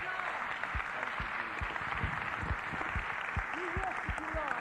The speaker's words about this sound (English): Why don't we give the Lord Jesus a big clap? Come on. Annetaan taputukset Herralle.